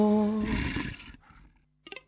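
A loud, deep wolf growl sound effect in a radio station promo for a Friday 10 pm show rumbles for about a second, then trails off into a softer rasp, followed by a brief sharp snarl near the end, with no voices.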